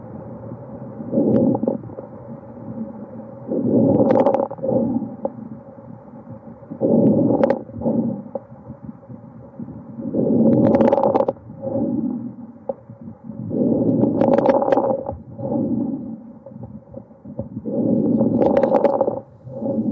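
Stethoscope recording of lung sounds in pulmonary fibrosis: about six slow, muffled breaths in a steady rhythm, with fine crackles clustered near the peak of each breath. No voices.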